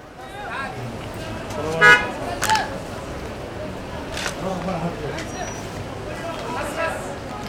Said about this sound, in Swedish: Att ta sig på egen hand är svårt i Jordanien. Sarka är inte den enda platsen där bilarna kör kors och tvärs, där trafiksignaler saknar ljud, hur nu dessa skulle höras i vimlet, och där skyltar med punktskrift i princip saknas helt.